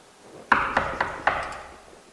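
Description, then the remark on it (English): Four firm knocks on a door late at night in a quick, even rhythm, each a sharp wooden rap with a short ringing tail, the first a little louder, with no voices. “A knock scares us.”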